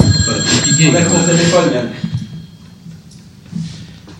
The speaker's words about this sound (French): T'attends le téléphone qui sonne,